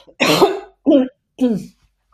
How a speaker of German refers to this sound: Entschuldigung, ich muss mal kurz husten.